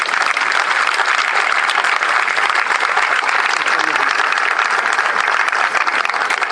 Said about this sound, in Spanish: Primeramente debemos agradecer la presencia del intendente municipal interino, Manuel Pasaglia, que también dijo, si los vascos cocinan, vamos todos y vamos a hacer la Semana Nacional. Un aplauso para él.